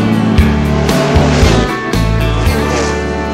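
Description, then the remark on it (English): A loud engine roars and revs, its low droning pitch jumping in repeated steps as if shifting through gears, with no voices over it. “So let's fire up that big old engine and hit the gas.”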